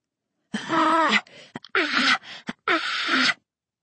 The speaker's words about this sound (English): It's a wheezing gasp from the far side of one fence. It sounds human and repetitive. Someone is panting for breath. The gasping trails off into a hoarse whine as if they're in so much pain they can't scream anymore.